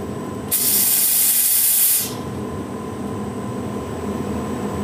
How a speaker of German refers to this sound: Also jetzt sind wir im Betrieb und jetzt kommt eben Dampf und eben kein Aerosol und jetzt schaut mal, was passiert.